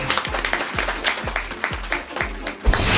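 Dense, steady applause for a guest with a crowd-like wash of claps, layered over a music bed with a regular thumping low beat about twice per second; no one speaks.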